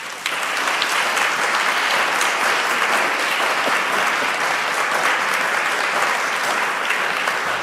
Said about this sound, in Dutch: Ja, lieve mensen in de zaal hier, die mooie zaal Bertouille van Beaux-Arts. Ik zou zeggen, geef mijn gasten alvast een applaus.